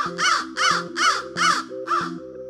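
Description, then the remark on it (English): Five loud, harsh crow caws in a steady rhythm, each a rasping burst about half a second apart, with no talking. “And then, oh, look at those crows.”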